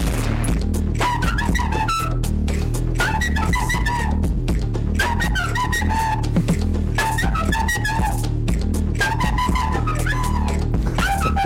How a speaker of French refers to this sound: Saurez-vous, Monsieur Oiseau, reconnaître ce titre revisité à la flûte et au kazoo ?